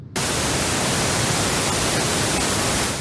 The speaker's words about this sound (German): So, das war weißes Rauschen. Zauberei, oder? Ja, und was ist es jetzt? Aber das sind doch alle Töne, die wir gleichzeitig hören können. Also alle Frequenzen, sagt man. Wahnsinn. So ein bisschen, als würde man alle Farben im Farbkasten zusammenrühren.